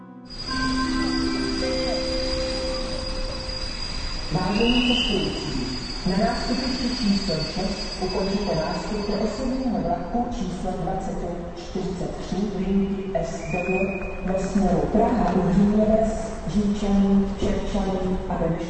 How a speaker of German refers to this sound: Der Prager Hauptbahnhof am frühen Morgen. Beinahe im Minutentakt kommen die Züge aus allen Richtungen an. Hunderte Pendler hetzen zu einem der Ausgänge oder in Richtung der U-Bahn.